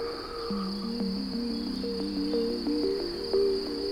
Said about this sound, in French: Les grillons, eux, chantonnent de manière incessante.